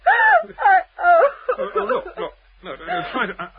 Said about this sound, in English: Well, sit down. No, you'll be ill if you cry like that. Have a glass of wine. Try and stop crying. You are crying, aren't you? I mean, it isn't hiccups, is it?